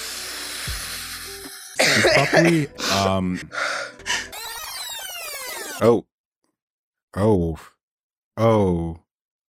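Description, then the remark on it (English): Someone makes loud, exaggerated gasping breaths and harsh coughs in a dramatic burst, followed by a couple of short strained vocal huffs separated by silence. “I need to do my COPD breathing.”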